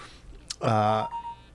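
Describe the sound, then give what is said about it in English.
An iPhone text message notification tone: a single buzzy, harmonically rich tone holding steady for about half a second, preceded by a short hiss-like click and trailing off into a faint ring. “And when you have an iPhone, a little noise happens when you get a text.”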